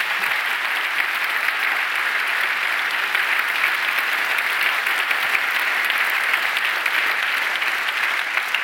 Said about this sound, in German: Ihnen allen hier, liebes Publikum, einen schönen guten Abend und bitte von uns allen nochmal herzlichen Applaus und willkommen, Aleida Assmann und Navid Kermani.